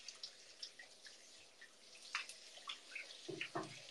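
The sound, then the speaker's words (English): Water, not yet hot, runs from a tap in Israel in a steady, hissing stream, with irregular splashes and drips breaking through. Nobody speaks. “The water is not hot, you know.”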